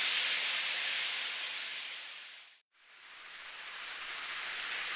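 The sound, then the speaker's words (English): Steady, dense hiss of rain pours down with no voices, briefly fading almost to silence midway before swelling back to the same even downpour. “Uh-oh, now it's starting to rain.”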